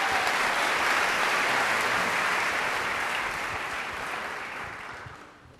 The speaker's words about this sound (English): That was wonderful. I loved it. You can applaud it. Yeah.